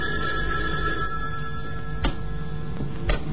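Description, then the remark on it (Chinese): A telephone rings steadily and continuously, clear, with two sharp clicks breaking in near the end. No one speaks. “巴斯蒂安一无所获地回到家中，那个神秘的电话又跟踪而至。”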